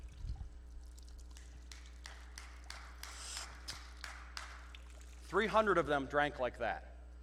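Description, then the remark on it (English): Repeated short splashes and slurps of water as someone demonstrates getting down and lapping up water the way men drank from a stream, followed by a brief burst of a voice near the end. “They got down in the stream like this and started. Drinking the water like that, okay?”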